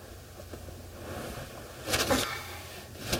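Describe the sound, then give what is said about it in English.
A low, steady idling rumble fills a parked car's cabin, broken by a couple of brief rustling clunks near the end. No one speaks. “would end up back in the one place they'd always been able to count on. The car.”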